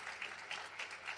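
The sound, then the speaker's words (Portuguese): Steady audience applause for a guest being thanked with a small gift. It is a dense wash of many hands clapping at an even, moderate level with no voices standing out. “Pediria, então, aplauso ao Dariano.”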